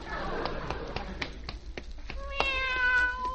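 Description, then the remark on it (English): A series of sharp, irregular taps gives way to a single drawn-out meow from a fat little cat, bright and tonal, filling the last second. No one speaks. “Look, there's that little pussycat again.”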